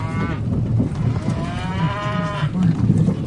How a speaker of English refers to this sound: Cow.